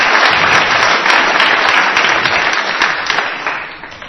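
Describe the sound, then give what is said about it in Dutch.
A crowd applauds steadily, welcoming guests onto a podium, a dense wash of many hands clapping at a loud, even level that begins to taper off toward the end. Nobody speaks over it. “Ja, geef ze maar een applaus, dat helpt.”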